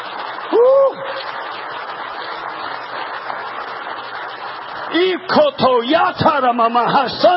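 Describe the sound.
An audience claps hands in a dense, steady wash of applause, with raised voices calling out over it and growing louder toward the end.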